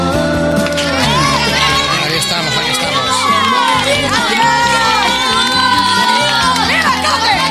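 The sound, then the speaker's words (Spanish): A loud crowd, asked to stand, cheers, applauds and shouts continuously at an event of the Spanish radio group COPE, with excited voices rising over a bed of music for the whole stretch, steady in volume without breaks. “De pie, por favor. Aplausos.”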